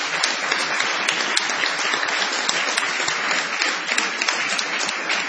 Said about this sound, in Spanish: Este es nuestro pequeño galpón de la calle Gorriti y vamos a continuar con espíritu de ovación para honrar a Patricio Barton.